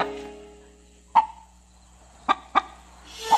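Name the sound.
chickens clucking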